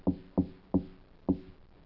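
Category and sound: impact, knocking on a door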